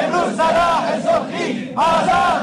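A crowd of protesting teachers chants slogans in unison, loud rhythmic shouted phrases with harmonic voices, repeating in bursts with a brief pause before the next chant.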